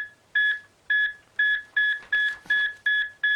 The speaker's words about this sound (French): Alors, à l'électrocardiogramme, vous savez, cette machine qu'on voit aussi dans tous les films, dans toutes les salles d'opération, qui s'emballe avant que les médecins se mettent à crier « on est en train de le perdre », et bien ça donne ça.